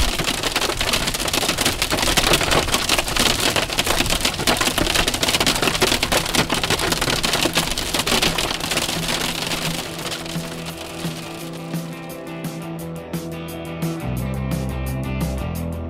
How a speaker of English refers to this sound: Yeah, we already have hail.